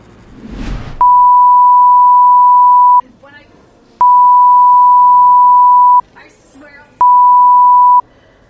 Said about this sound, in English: Oh, that's Morse code. Huh.